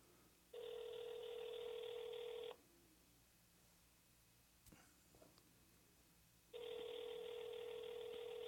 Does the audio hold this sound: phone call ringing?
yes